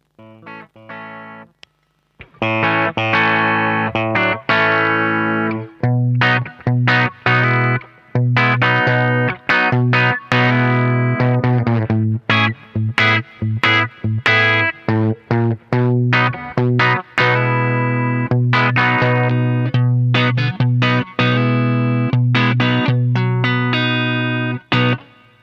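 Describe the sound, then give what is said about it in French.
A clean electric guitar plays sustained chords and picked notes with a very small hall reverb set to 2.39 seconds on the mixing console, steady and fairly loud for about twenty-five seconds, with no voices. “Voilà, là on a un joli son clair. Pour référence, pour rappel plutôt, j'utilise une toute petite reverb hall qui est à 2,39 secondes précisément sur la console.”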